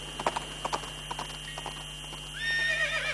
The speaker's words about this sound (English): And look at there. Wild horses.